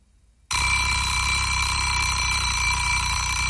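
A grandmother's kitchen egg timer bursts into a loud, continuous metallic ringing that starts abruptly after a brief moment of quiet and keeps rattling steadily without pause.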